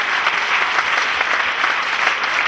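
A large group claps together in sustained, dense applause given to Jesus, a steady wash of many hands at even loudness with no voices rising above it.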